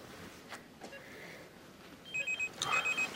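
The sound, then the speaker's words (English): A mobile phone inside a bag starts ringing partway through, sounding a quick series of bright electronic tones in rapid pulses, moderately loud, after a couple of soft rustling knocks. No one speaks. “He removes a mobile phone from the bag.”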